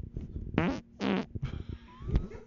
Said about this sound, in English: It's like you were blowing your nose. But you were blowing your ass. Blurt, blurt.